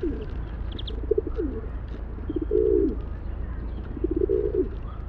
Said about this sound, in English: Birds in this family produce relatively low-frequency songs. Think of the cooing sounds you've heard city pigeons make. You know, this sort of thing.